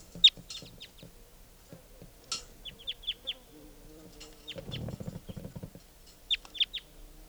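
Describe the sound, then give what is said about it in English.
A wild crossbill, an adult yellow male, gives short, sharp, high-pitched call notes in quick bursts of three or four, with a patch of low clucking and rustling noise partway through. “I think there's a wild bird here.”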